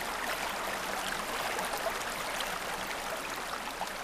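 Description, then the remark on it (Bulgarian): A steady, continuous rush of flowing stream water, bright and hissy, holding an even level throughout with no voices or other sounds. “Точно в този момент небесният воин гигант съборил една от колоните, които подпирали небето, и водата от рая започнала да залива земята съвсем близо до бойното поле.”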